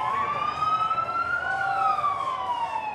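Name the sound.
police escort siren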